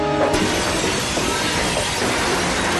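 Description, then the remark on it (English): A pane of regular glass is smashed with a pipe pulled off the wall: one sharp, loud impact near the start, then a dense crash and clatter of falling shards that continues to the end. No voices. “That's just regular glass? Yeah. He just pulls a pipe off the wall and then...”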